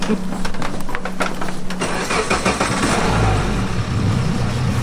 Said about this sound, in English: We've set off. Our engine's rumbling behind us.